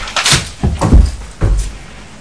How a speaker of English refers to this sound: Shut the door. First, shut the door.